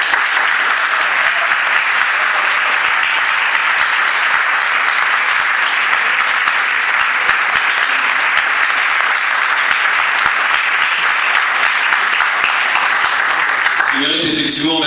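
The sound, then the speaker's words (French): A crowd in a hall bursts into sustained, loud applause for the striking workers of PSA Aulnay, a dense and steady wash of many hands clapping that holds for about fourteen seconds before a voice cuts in at the very end. “Que ces applaudissements pour la lutte qu'ils sont en train de mener, pour la bagarre qu'ils sont en train de porter.”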